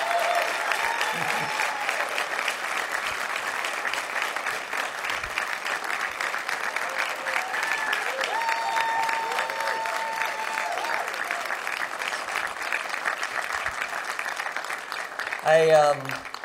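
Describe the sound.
An audience claps loudly and steadily for about sixteen seconds as two people come to the stage, a dense, even wash of applause with a few faint voices mixed in and a brief vocal sound near the end.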